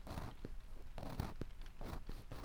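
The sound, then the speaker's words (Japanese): Soft, scratchy scraping of an ear pick cleaning an ear, repeated in short strokes about twice a second over a steady faint hiss, with no talking. “耳かきの音、雨の音、”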